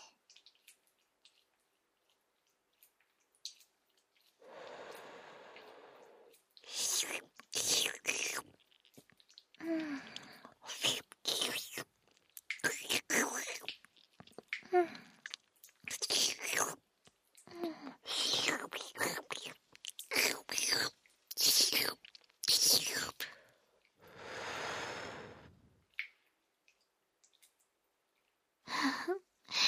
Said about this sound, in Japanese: すっごいクチュクチュいってる。すごいエッチな音。